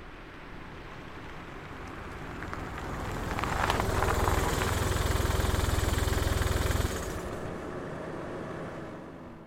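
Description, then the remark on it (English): A car engine runs with a steady, low rumbling hum and faint vibration, swelling louder for a few seconds in the middle before settling back to an even idle. No one speaks. “Actually, right, hop in my car here.”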